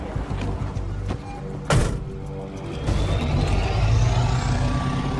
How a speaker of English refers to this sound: Ty stares out through one of two small windows in the back as the truck pulls away.